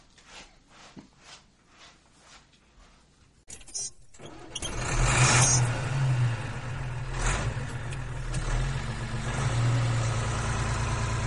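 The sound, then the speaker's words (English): A truck engine cranks with a few quiet rhythmic turns, then catches and roars to life, settling into a loud, steady rumble with no talking. “Now, which one of you flyboys can drive a truck? I guess that's going to be me.”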